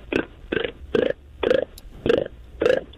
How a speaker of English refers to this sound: I can make this weird popping noise with my tongue that only... that freaks people out in a very quiet room, and I'm not even sure it's going to work over the phone.